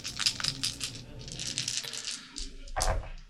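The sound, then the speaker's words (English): Dice are rolled for a TN2 theology check in a game, rattling and clattering across a surface in a quick burst of bright, overlapping clicks, with a brief pause and then a heavier tumble near the end; no one speaks. “Roll those explodos.”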